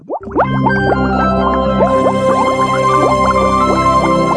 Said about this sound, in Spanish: El sonido de las burbujas, la efervescencia del pensamiento, la necesidad de encontrar respuestas.